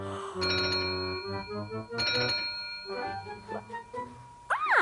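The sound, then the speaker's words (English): A telephone rings with a bright, chiming electronic tune whose tones repeat in two bursts, fairly loud, ending with a quick rising-and-falling electronic sweep. No one speaks. “Saved by the bell. Ha ha. Very funny, Molly. Now, where is that phone?”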